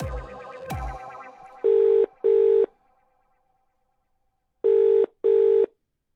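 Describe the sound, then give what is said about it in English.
A couple of sharp clicks and a brief hum, then a telephone rings in a double-burst pattern: two quick rings, a pause, and two more, loud, with no one speaking. “It's something called telephobia, and a podcaster in the UK has explored it by ringing people at random.”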